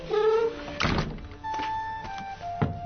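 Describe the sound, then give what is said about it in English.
The heavy, squeaky wooden door of the John Howland house in Plymouth, centuries old, creaks briefly on its hinges, then shuts with a solid thunk, followed by a few softer knocks and clicks as it settles. “welcomes our crew and bids us close the door”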